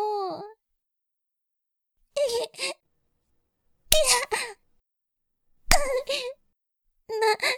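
girl crying

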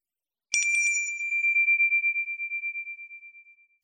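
small bell ringing

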